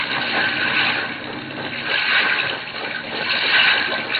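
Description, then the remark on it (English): Water rushes and churns continuously as a seaplane settles back onto the surface after a grinding sound during takeoff, a dense hiss that swells and eases in waves over a few seconds, with no voices. “We've got it back on the water again.”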